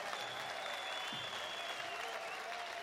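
An audience claps steadily for a few seconds, a dense, continuous patter of many hands at moderate volume with a faint murmur of voices underneath.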